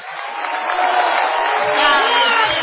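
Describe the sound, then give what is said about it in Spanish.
A crowd roars in a sustained ovation for a musician, a dense wash of cheering voices and clapping that holds steady and loud throughout, swelling slightly toward the end. “Igualmente desorbitada será la ovación que habrá de dedicársele al artista antes llamado …”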